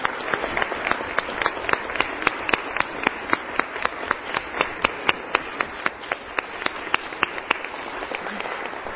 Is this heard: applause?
yes